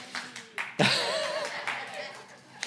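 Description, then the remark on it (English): An audience breaks into steady, dense applause after a reading of God's word, beginning with a few scattered claps, the clapping holding at a fairly loud level while a voice rises and falls over it. “We're in a clapping mood today.”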